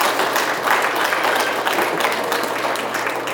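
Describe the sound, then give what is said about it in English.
A crowd at a middle school applauds steadily, many hands clapping in a dense, even wash of sound that stays loud and constant throughout, with no speech over it. The applause is for the people who delivered the Catalyst mail every Sunday. “So could you give them one more applause, please?”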